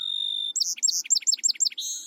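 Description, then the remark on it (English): A songbird sings clearly and close by: a long thin whistled note, then a quick series of about seven rhythmic, repeated chirping phrases, ending on a high trill. “Many bird species have a distinctive song.”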